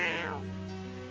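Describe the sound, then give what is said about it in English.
A female cat purrs steadily, a continuous low rumbling hum with no pauses, and a brief higher-pitched sound at the very start. “And she's still purring.”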